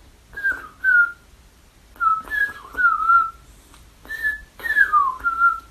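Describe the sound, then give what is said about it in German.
A person whistles an imitation of a mistle thrush's song: four short, fluting phrases of sliding notes, each separated by a brief pause, clear with no talking. “die hat so einen Spitznamen bekommen von meinem Freund Greg, der nennt sie Vermisteldrossel, weil sie immer so einsam ist und ihr Gesang ist so.”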